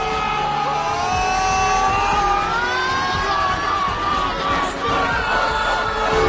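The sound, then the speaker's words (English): A large crowd and a team, led by a man, yell together in a loud, sustained spirit yell. Many voices blend into one full, rousing shout that keeps going without a break. “He leads their team and the crowd in a spirit yell.”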